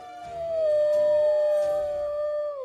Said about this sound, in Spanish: Pronto vio la silueta de un árbol, pero al acercarse descubrió que el sitio ya estaba ocupado por un perro que lloraba recostado contra el tronco.